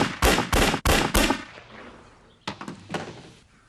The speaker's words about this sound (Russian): Слушай, вы тут палите целыми днями, а выстрелы ведь далеко слышно. Кому слышать? На 30 километров один лес хоть из калаша палит.